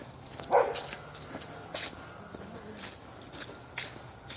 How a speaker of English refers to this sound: Lots of dogs.